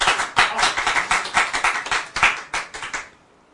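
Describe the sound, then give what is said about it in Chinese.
Hands clapping in a quick, steady burst of sharp, bright claps lasting about three seconds, fairly loud and slightly overlapping, then stopping abruptly into quiet. “OK， 可以，赞，拍手。”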